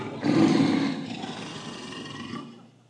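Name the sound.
lion roaring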